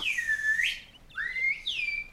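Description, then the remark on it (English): A person whistles a short birdlike call, mimicking a bird, in three sliding phrases, a long falling note followed by two quicker swooping ones, clear with nothing else around it. “It was more like somebody mimicking a bird.”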